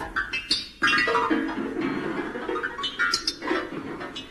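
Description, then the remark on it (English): A piano being moved along to the docks, its strings jangling in discordant clusters over a steady scraping clatter for several seconds, fairly loud, with no one speaking. “That was the sound of Seagoon piano dancing a piano to the docks”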